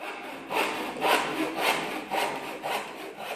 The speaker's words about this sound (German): Den Hammer, die Säge und die Nägel borgten sie sich aus der Werkstatt von ihrem Papa. Zuerst sägten sie die Bretter zurecht.